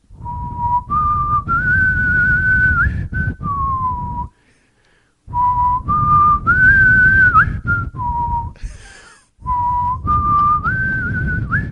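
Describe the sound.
A person whistles a short tune three times in a row, with brief pauses between repeats. The whistling is clear, with a low rumbling background underneath.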